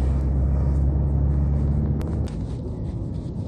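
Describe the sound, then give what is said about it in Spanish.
A steady low engine rumble and road hum fill the inside of a taxi driving late at night with no traffic, with a faint click or tick midway and no one talking. “Esta vez el trayecto es en silencio.”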